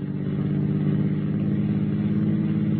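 vehicle, car engine revving

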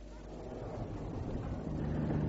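vehicle, car engine

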